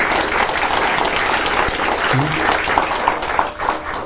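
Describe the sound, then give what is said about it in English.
A crowd applauds steadily for several seconds, a dense, continuous patter of many hands clapping at once, with faint voices mixed into the noise. “So now please, we give each the big round of applause.”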